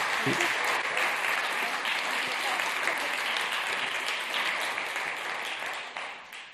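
A room full of people claps steadily for several seconds, a dense, even wash of applause that stays loud and then begins to thin slightly toward the end.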